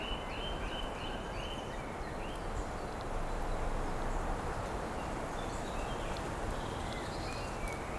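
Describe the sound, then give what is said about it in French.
A steady, rushing wind sweeps through trees with a low, constant roar. A few short, repeated bird chirps sound faintly in the first seconds, with scattered calls later. “Jeu de vent dans la forêt silencieuse.”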